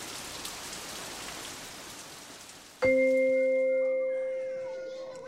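Steady, dense rain hisses evenly for a few seconds, then stops abruptly as a loud, sustained bell-like tone rings out and slowly fades.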